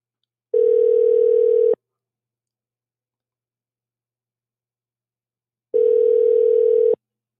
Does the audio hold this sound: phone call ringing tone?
yes